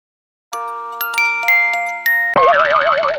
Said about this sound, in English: Whose is this musical box? It's Mum's. Listen.